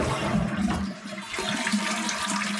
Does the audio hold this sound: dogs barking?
no